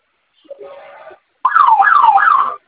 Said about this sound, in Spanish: Tiene dos botones de flamita. Déjenlos oprimidos por 10 segundos. Se va a activar la alarma en cuanto suene. Por favor, ingrese su clave para silenciar.